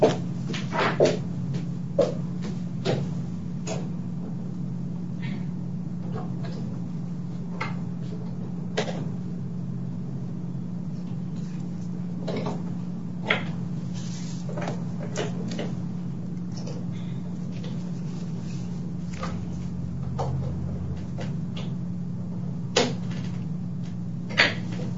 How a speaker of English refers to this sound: No, I'm in my conference room with the windows open and there's a truck. So we're going to be closing the windows. So if you just bear with us for a minute.